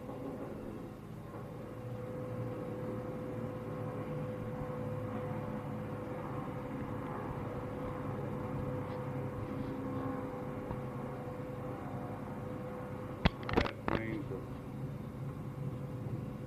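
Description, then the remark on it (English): Small propeller observation planes drone overhead, their steady low hum continuous throughout, with a couple of sharp knocks near the end. “The little planes going over are observation.”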